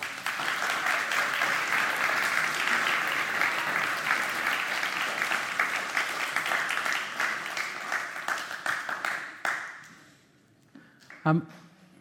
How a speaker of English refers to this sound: So I think we should give him a little clap.